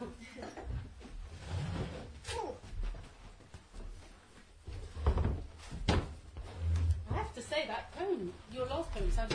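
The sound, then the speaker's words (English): Chairs being fetched and moved, with several wooden knocks and thumps at irregular intervals, while indistinct voices murmur in the background. “Okay, let's get some chairs.”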